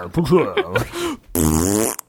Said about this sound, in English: There's always the fart sound. Because people know that's the time to laugh.